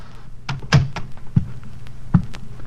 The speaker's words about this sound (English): I got to apartment 1B. I knocked. Then I tried the door. It was open, and I walked in.